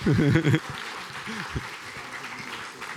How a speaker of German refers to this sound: Perfekt. Das ist ein Applaus wert, oder?